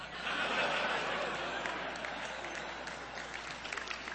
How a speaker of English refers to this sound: You shouldn't clap, you know, because if you'd followed my previous argument, you'll see those don't mean anything or prove anything.